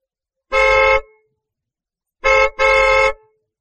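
A car horn honks three times, one long blast followed after a pause by a short toot and another long blast, loud with no other sounds around it.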